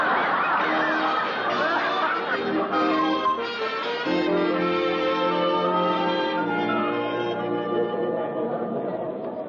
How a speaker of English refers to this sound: Oh, my, there's a crowd.